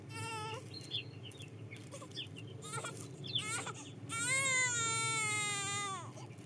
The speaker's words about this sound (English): Hey, did you just hear that? Yeah, it sounded like a child crying. Yeah, and it sounded like it was coming from the bridge.